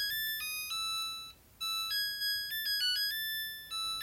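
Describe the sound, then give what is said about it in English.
A washer-dryer plays its end-of-cycle tune when the laundry is done, the theme from The Trout, as a bright electronic melody of stepping, sustained beep-like notes. It pauses briefly, then carries on. No one speaks. “We got this washer and dryer a few years ago, and it plays the theme to the trout when it's done.”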